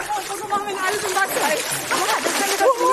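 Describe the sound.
Animals splash continuously as they run across a green meadow into the Krähenteich pond, where ice floats in water of about 2 degrees, a busy churning of water that lasts throughout, with voices talking over the top.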